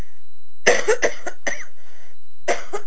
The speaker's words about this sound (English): Ooh, sorry, I got a cough. Okay, cough. You all right? You have some water? No, I'll go get some.